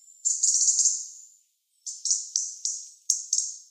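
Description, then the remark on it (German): A bird call alone: a buzzy, high-pitched trill lasting about a second, then a pause and a series of six quick ratcheting notes, like someone winding a clock. Clear. “Klingt wirklich so ein bisschen, als würde man eine Uhr aufziehen. Das schreibt zumindest der Svensson, also der Kosmos-Vogelführer.”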